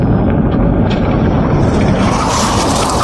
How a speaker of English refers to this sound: And then we'll play this sound effect because that bit was failed. It's a car crash.